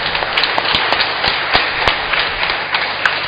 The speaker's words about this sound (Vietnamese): Hôm nay bổn mạng cũng là bổn mạng của ca đoàn Lejo hát lễ. Chúng ta cùng chúc mừng hội Lejo và ca đoàn Lejo một tràng vỗ tay thật lớn.